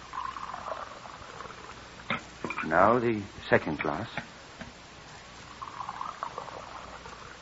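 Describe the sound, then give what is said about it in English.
Scalding hot fluid, boiling water used to dissolve salts out of roasted shale, pours steadily from a kettle into glass beakers, a soft trickling splash that stops while a man speaks briefly, then resumes for a second pour. The sound is fairly quiet. “You could steady these glass beakers for me while I pour the fluid off.”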